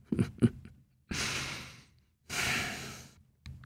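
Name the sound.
out-of-breath panting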